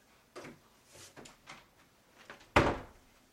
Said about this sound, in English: Now, if you notice the level of the room, or the noise level of the room, it's really quiet. Now, I'm going to close my door.